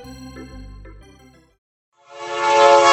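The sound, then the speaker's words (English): A train horn sound effect introducing the Rabbit Train radio segment sounds in two blasts: a deep, steady tone that fades out, a brief pause, then a louder, brighter horn blast swelling up. No one speaks. “All aboard. It's the Rabbit Train with Carl Ravitch.”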